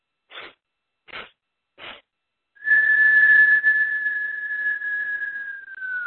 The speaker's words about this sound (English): And you exhale through the mouth, but you make like a whistle. So inhale in four strokes through the nose. Exhale through the mouth, but whistle as you exhale.